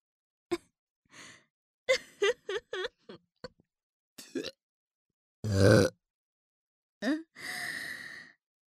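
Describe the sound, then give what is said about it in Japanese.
A single loud burp after swallowing semen rises out of a string of soft breathy vocal sounds and sighs, followed by a drawn-out exhale; no words are spoken. “あなたのザーメンがあまりにも濃いものですから、はしたなくゲップをしてしまいました。”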